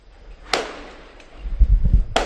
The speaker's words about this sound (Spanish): Perdona, ¿esos son petardos de San Juan ya? Son petardos de San Juan en Barcelona que están celebrando el triunfo de la selección española. Sonido en directo. Abre la ventana y sube el micrófono